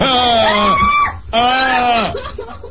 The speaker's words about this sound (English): Listen to her. That's awful. Oh my God. That is a horrifying scream, isn't it? Yeah, I don't like that scream.